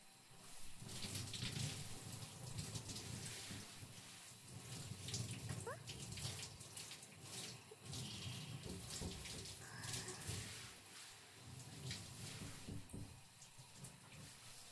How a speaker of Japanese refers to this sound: 体はきれいに洗えましたから、あとはシャワーで体を流しちゃいますよ。